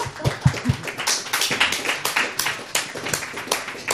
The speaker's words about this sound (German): Heute mit Uta Felten. Beifall für Uta Felten, bitte.